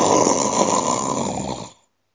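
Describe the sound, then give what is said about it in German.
One long, loud snore from a farmer asleep in bed in a bedroom, a rough, rattling inhale lasting nearly two seconds before cutting off into silence. “Kroch zum Mund hin, da tat der Bauer einen großen Schnarcher.”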